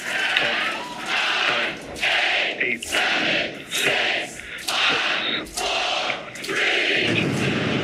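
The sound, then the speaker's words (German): A large crowd cheers and roars loudly and continuously at the launch of the SpaceX Starship rocket in Texas, with swelling shouts and whoops rising in repeated waves over about eight seconds, ending in a sustained low rumble as the rocket lifts off. “Unter riesigem Jubel bei SpaceX.”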